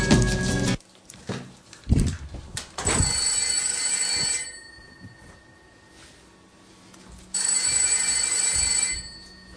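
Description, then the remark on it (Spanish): A telephone rings for an incoming call, two electronic ring bursts a few seconds apart, fairly loud, with scattered clicks and handling noises in the quiet gaps and no talking. “Uy, que tenemos una llamada, vamos a ver si logramos contactar.”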